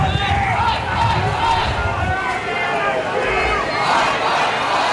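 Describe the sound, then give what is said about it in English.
A large outdoor crowd in Birmingham cheers and claps steadily as Ozzy Osbourne's hearse passes through, with flowers thrown and scattered shouts rising over a dense wash of voices, and a low rumble underneath during the first couple of seconds. “So with cheers, claps and flowers thrown as Ozzy Osbourne's hearse passed through his home city of Birmingham today.”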